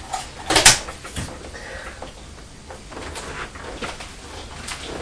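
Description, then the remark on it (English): A box gets knocked over with a sharp, loud clattering thud near the start, followed by a few fainter knocks and rustles as things settle. “Knocking the box out.”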